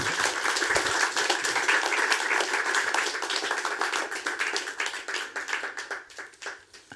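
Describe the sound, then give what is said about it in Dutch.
An audience breaks into applause for a speaker after her talk, a dense wash of many hands clapping at once, holding steady and loud before gradually thinning into scattered claps and fading out near the end. “Ik zou toch een groot applaus willen vragen voor”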